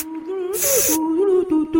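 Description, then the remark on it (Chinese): A single half-second hiss of mosquito repellent sprayed onto a microphone, a bright, airy burst over a steady wavering low tone that continues before and after. “看我在麦克风上面喷防蚊液。”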